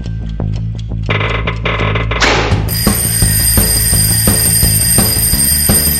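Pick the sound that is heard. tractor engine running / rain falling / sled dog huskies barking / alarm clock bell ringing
alarm clock bell ringing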